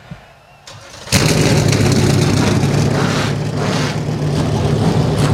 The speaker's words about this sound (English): And with that, the engines come to life.